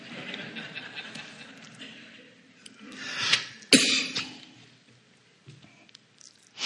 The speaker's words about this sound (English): I think my cough is on a clock. About every 30 minutes I start hacking. Aren't you glad? But then after I cough about 10 minutes, I can go for another 30.